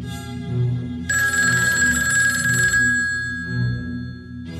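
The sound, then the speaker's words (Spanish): A telephone rings loudly with a bright, buzzing electric bell tone lasting about two seconds, its ring fading out over a low rumbling background hum. “Coge el teléfono.”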